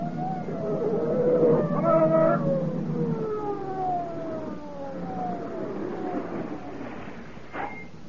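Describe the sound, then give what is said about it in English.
The siren of an approaching police motorcycle wails in long, sliding tones that repeatedly glide downward in pitch, loud and steady over a low engine rumble, with no talking. “Hey, here comes a motor cop.”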